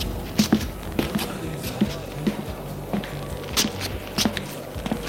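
Footsteps thud along at a steady walking pace, roughly a dozen soft heavy impacts over a low background rumble, with no one speaking.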